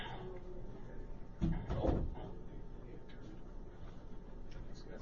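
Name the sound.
chair being pulled out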